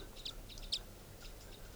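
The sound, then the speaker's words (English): A few crossbill calls from the treetops along a road near a campsite: short, high-pitched chips spaced roughly half a second apart, faint against a low, steady background rumble, with no voices. “Recording, I've been walking down the road here near the campsite, and I happened to hear crossbills up in the treetops of the road.”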